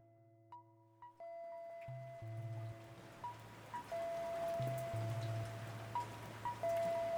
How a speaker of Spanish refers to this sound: La lluvia caía silenciosa y a la luz de las lámparas LED se reflejaban en las charcas embarradas que estaban a orillas de la cuneta o en la vereda.